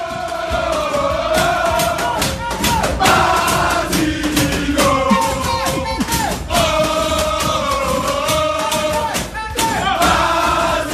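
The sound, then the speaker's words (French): The Gazélec Ajaccio football team shouting and chanting together in their locker room after a 1-0 win, loud sustained voices rising and falling, with sharp thumps and claps breaking through the din. “Et nous allons écouter l'ambiance dans les vestiaires.”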